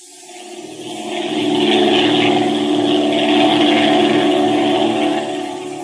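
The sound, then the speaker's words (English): A propeller airplane engine drones steadily, swelling up over the first couple of seconds and then holding a loud, even, throbbing hum before easing slightly at the end. No voices. “I'm ready to go to the plane now.”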